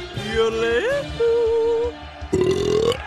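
A loud, drawn-out burp by a Swedish contestant in a burping contest, rumbling in three long voiced stretches with brief breaks between them and a rising pitch at the end, with no talking.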